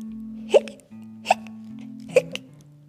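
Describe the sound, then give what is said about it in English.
A person imitates hiccups with their voice: three sharp "hic" sounds spaced evenly less than a second apart, over a low steady hum and no talking. “Skeleton hiccups. Hiccups.”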